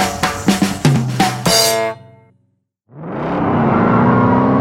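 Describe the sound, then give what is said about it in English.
A car engine starts up after a short silence and settles into a steady droning rumble as the vehicle pulls away onto the street, following a brief burst of clanking, resonant mechanical noises. “we were safely back on the ground, in the car, and on the street.”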